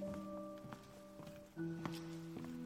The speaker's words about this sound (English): Footsteps echo on the Masonic floor.